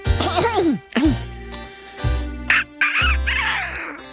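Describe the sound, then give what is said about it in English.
A voice imitates a rooster crowing in a loud, strained cock-a-doodle-doo, broken into several rising and falling warbling bursts with a rough, raspy edge. “Maybe I'll give that crowing at dawn stuff a try.”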